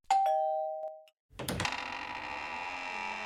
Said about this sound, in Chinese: 丁丁左手握着南瓜掌心雷，按了门铃。